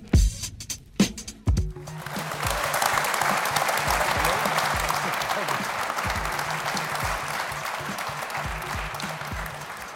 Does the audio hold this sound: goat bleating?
no